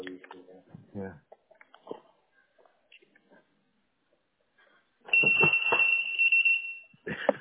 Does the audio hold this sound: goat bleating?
no